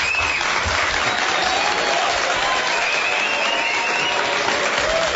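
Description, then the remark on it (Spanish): A crowd of Politécnico students claps steadily for several seconds at 6:47 in the morning, a dense, sustained wash of applause with a few faint whistles or cheers riding on top, no talking. “Pocas veces a uno lo reciben a las 6:47 de la mañana con un aplauso de ese tamaño.”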